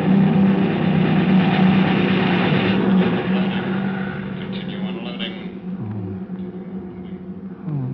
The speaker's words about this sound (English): It's not our planes. It's theirs. Okay. Let Joe down. Easy now. Easy. There they come. Over at that sand dune. Messerschmitts, stay under your tin hat. Those babies cut grass.